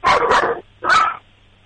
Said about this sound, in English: So yeah, that's every time the doorbell rings or the doorbell rings on TV. That's great. That was some solid barking. Yeah, he's an angry little guy. And what kind of dog is your dog again?